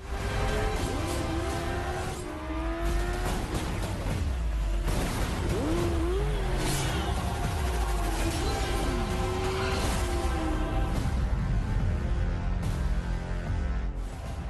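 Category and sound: vehicle, motorcycle engine revving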